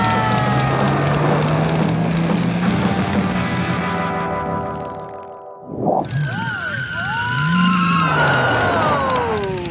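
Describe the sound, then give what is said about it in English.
A motorcycle with a sidecar, shaped like a giant pickle, roars and revs steadily, drops out briefly, then returns with swooping, squealing tones like tires skidding, mixed with rough crunching noise as it screeches to a stop in a vegetable garden. “you've screeched into a vegetable garden.”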